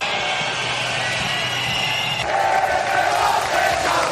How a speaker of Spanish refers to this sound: Fuertes abucheos al presidente del gobierno en funciones, Pedro Sánchez, a su llegada al desfile, algo que ya esperaban desde Moncloa y que no han podido evitar.